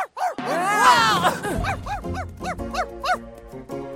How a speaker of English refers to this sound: Where's your dog? What? Oh, that's Steve. He likes to bark.